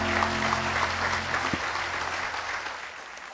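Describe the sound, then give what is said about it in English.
An audience claps together in sustained, dense applause as praise to the Lord during a morning worship service, a steady wash of many hands with a low hum underneath, fading slightly toward the end. “Give the Lord a hand clap of praise this morning.”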